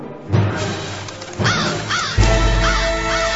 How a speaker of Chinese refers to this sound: 深秋的夜空中，除了偶尔几声乌鸦受惊吓之后的鸣叫